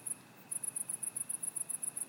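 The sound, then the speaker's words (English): Cicadas buzz in a shrill, high-pitched drone that pulses in quick, even bursts, continuing steadily after a brief opening pause, with no voices and only a faint low background hum. Heard through a rolled-down car window on the 405 north toward Kalayo, a small town near South Carolina, on a 78-degree day. “You can hear the cicadas and the noise that they make.”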